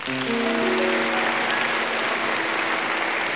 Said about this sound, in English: We'd love to have you share that beautiful applause with our players.